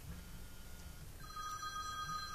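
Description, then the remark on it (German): A telephone rings with a steady electronic tone that starts partway through, fairly faint against a low background hum, with no talking. “Das Telefon stellt. Da ist es wieder.”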